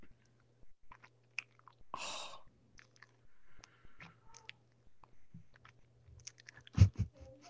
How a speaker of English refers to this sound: I would prefer you to eat the pizza while we record. Yeah. I actually don't hear. Here, wait, let me listen. Get a little bit closer, Some please. ASMR chewing. Yeah, I want some ASMR chewing, please. Can you lean into it? Let's listen.